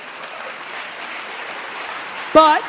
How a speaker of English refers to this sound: But on your own dime, not your parents. There's the parents clapping.